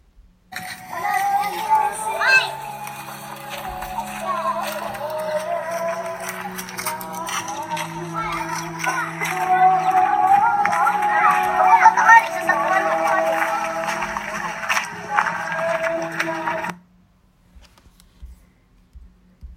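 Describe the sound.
Karaoke singing of a slow, sweeping ballad echoes from a house, a wavering voice over sustained backing chords, holding a steady moderate level for about seventeen seconds before cutting off abruptly.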